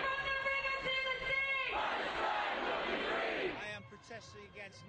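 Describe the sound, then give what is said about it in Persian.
A pro-Palestine protest crowd shouts against Israel in the central streets of London: sustained, pitched chanting voices give way to a loud, rough roar of many people yelling together, then scattered voices trail off. “فریاد خشم و نفرت از رژیم صهیونیستی و تنین آزادی فلسطین در خیابان‌های مرکزی لندن.”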